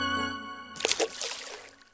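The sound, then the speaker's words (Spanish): A small frog plops into a temple pond with a single splash, followed by brief trickling ripples, after a sustained musical tone that cuts off just before the splash. “Uno muy famoso evoca el sonido de una rana zambulléndose en el estanque de un templo.”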